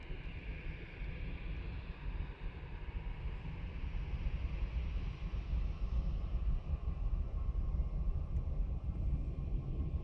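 A breeze buffets outdoor microphones fitted with bits of foam as a windshield at Luton Airport, in a steady, rumbling roar with thick low gusty thumps. A broad hum sits underneath for the whole stretch, and no one speaks.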